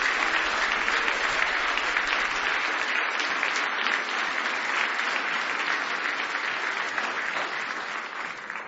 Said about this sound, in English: Give him a big hand clap of praise this morning.